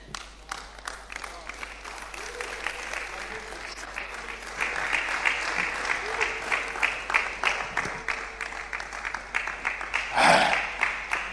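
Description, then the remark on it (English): A crowd applauds steadily for several seconds, the dense patter of many hands swelling louder midway and peaking near the end with a brief burst of cheering. “If you are clapping, please clap.”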